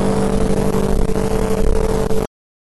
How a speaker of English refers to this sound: And I hope you could hear most of this, because I know the traffic's loud. Man, I hope you could hear it.